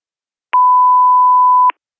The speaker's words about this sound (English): We're not in the office at the moment. Please leave your name, phone number, and a message of no more than 3 minutes when you hear the beep.